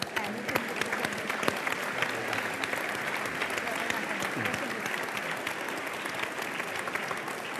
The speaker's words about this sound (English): And give yourselves a round of applause, please.